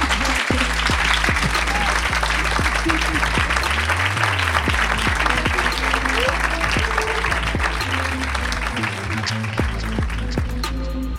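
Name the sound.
audience applause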